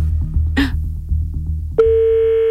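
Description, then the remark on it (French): A brief rustling burst, then the ringing tone of a dialed outgoing telephone call, its second ring, cuts in abruptly, a loud steady electronic hum holding to the end over a low, pulsing background rumble. No one speaks. “Deux sonneries.”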